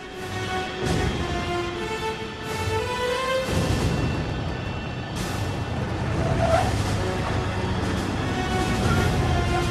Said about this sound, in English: Hector's armed convoy speeds onto the tarmac. They circle like jackals around their moving prey, kicking up the dust with their tires. As they pull into position, Hector immediately jumps out to watch the plane grind to its final halt.